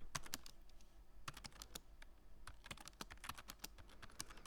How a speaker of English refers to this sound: You seem to be, seem to be hitting the keys a little hard.